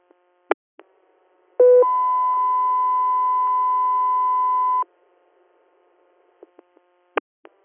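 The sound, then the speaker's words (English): Radio dispatch alert tones ahead of an air medical interfacility transfer request: a brief lower tone jumps to a long, steady, higher tone held for about three seconds, loud and clean, with scattered radio clicks before and after and no talking. “Guthrie, or stand by for tones.”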